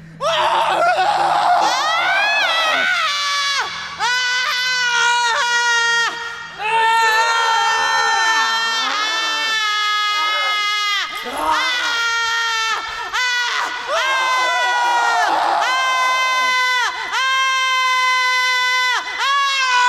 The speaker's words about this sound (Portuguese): Como um eco, repeti os gritos dele, imitando-os, superando-os até em volume e intensidade. Os meus gritos tiveram o condão de abrandar os dele.